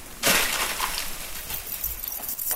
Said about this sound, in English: It's been so cold here, there are already big sheets of ice on the cliffs. But now on this day, the sun is just soaking it, and it's lit up, and daggers of ice are just calving off, making this amazing sound that's kind of echoing through the valley.